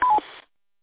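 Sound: radio roger beep tone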